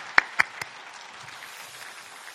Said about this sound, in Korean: 우리 힘차게 박수로 환영하시겠습니다.